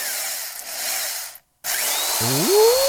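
hair dryer running

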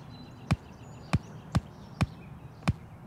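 hand clapping

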